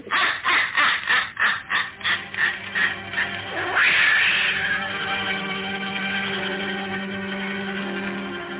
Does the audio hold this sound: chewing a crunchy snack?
no